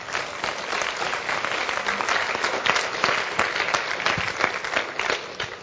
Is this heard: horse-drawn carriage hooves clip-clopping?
no